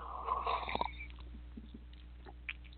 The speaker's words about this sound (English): All right, I've chosen three cards, and I'm going to take a sip of tea